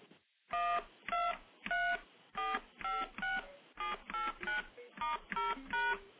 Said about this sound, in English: Now, just for comparison, let me play what all the standard touch tones sound like. And you've, of course, heard these, but I'll play them anyway, just to get them in your head.